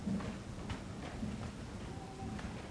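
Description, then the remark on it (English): Soft, irregular footsteps from several people shuffling and stepping close together as a group gathers to surround two people, scattered taps over a low murmur of movement with no clear talking. “Just listen to the footsteps as we gather. Listen to the movement of this body.”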